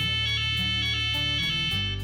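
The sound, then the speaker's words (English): An electronic audio signal from the port (left-hand) starting buoy, one of two starting buoys sailors use to navigate in a sailing race: a loud, steady buzzing tone rich in harmonics that shifts between a few pitches in short steps, with no voices. “The port, or left-hand buoy, emits a sound like...”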